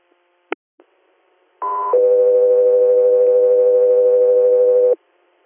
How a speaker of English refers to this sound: 3 Air, standby for tones.